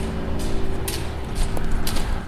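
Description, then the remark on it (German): Sharp, clicking taps of Nordic walking poles strike hard ground at a steady pace, four or five hits over a constant low mechanical hum. “Genau, Nordic Walking, das war es.”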